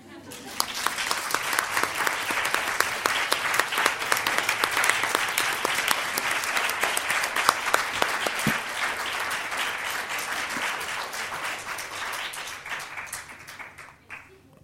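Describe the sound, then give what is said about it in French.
A crowd of former students and trainees applauds a woman for her work teaching textile restoration. Many hands clap in a dense, sustained wash that holds fairly loud for about fourteen seconds before tapering off at the end. “Alors, j'ai une proposition à vous faire, c'est-à-dire que toutes ces anciennes élèves, ces anciennes stagiaires, ceux qui connaissent son implication dans l'enseignement de la restauration textile, l'applaudissent.”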